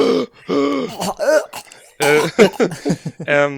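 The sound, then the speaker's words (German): Loud, heavy breathing with raspy, voiced gasps and throaty rasps coming in several uneven bursts, like someone straining or choking for air, with no words spoken. “Das ist so ein Atemgeräusch.”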